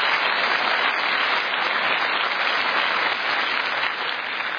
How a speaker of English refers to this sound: Give my volunteers a round of applause. Thank you very much.